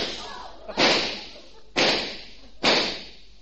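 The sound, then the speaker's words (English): A car's old, worn tire blows out on the road: three loud, sharp bursts about a second apart, each a broad crack trailing into a fading rush of hiss, over a faint rumbling background. “Gee, all we got left is that old spare tire, and it's as smooth as glass.”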